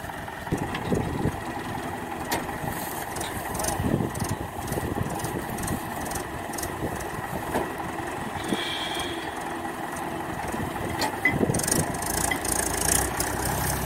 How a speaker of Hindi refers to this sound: tractor को अलग निकालते हुए ये देखिए